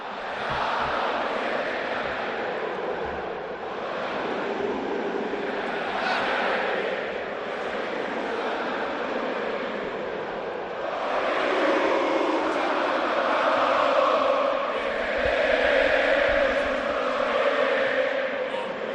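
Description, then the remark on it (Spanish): A large crowd of Madrid fans at the Metropolitano stadium chants "Lucha por tu camiseta" in unison from the south stand, a dense roaring wall of voices with swelling rhythmic surges that grow louder partway through and stay loud to the end. “Lucha por tu camiseta, sale del fondo sur y así grita la gente de Madrid.”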